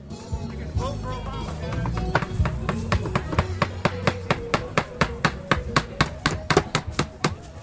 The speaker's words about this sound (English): Volunteers are hammering campaign signs to the side of this small house on Austin's east side. It's a largely Latino and African American neighborhood.